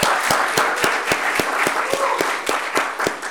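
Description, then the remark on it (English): An audience applauds graduates steadily for about three seconds, a dense wash of clapping with sharper claps landing in a quick, even beat on top. No voices are heard. “It might seem that applause is only”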